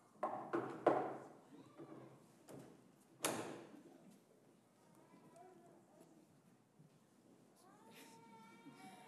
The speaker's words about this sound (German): klopft noch einmal.